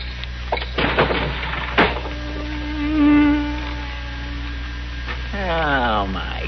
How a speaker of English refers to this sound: I'd as soon get stung as listen to all that buzzing.